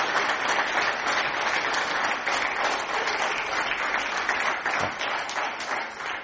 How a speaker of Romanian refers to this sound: O rundă de aplauze